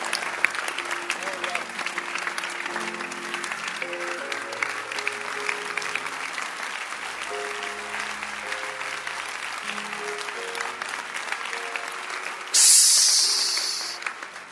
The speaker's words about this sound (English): Keep clapping your hands.